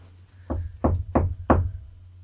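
Four firm knocks on a tabletop, evenly spaced with a slight pause before the last, dull over a low steady hum; no one speaks.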